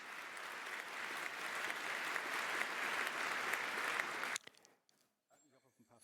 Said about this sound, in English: Giving him applause.